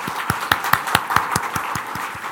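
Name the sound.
audience applauding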